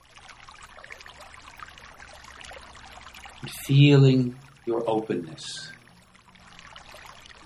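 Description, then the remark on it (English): Steady, gentle trickling water flows throughout, a soft continuous babble, while a calm voice speaks briefly in the middle over it. “You can keep listening to the sound of the water”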